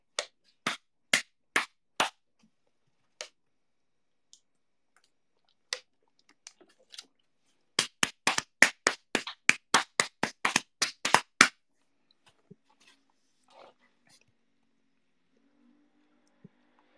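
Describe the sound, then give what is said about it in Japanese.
Sharp slaps of hands on thighs: four quick hits, a few scattered ones, then a fast burst of about fifteen loud smacks in an uneven rhythm, then quiet. “これは俺が太ももを叩いてる音です。”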